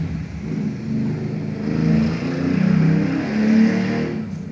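A loud motorcycle engine rumbles and revs, its deep throaty drone swelling and easing in a few surges over several seconds, with no voices.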